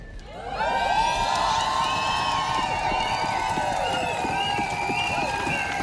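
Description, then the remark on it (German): A large crowd at a street demonstration against feminicides screams and cheers together for 18 seconds, one second for each murdered woman, in a sustained, high-pitched roar that rises suddenly and holds loud, many voices blending into one wall of shouting. “Und heute schreien wir für eine Zukunft ohne Feminizide.”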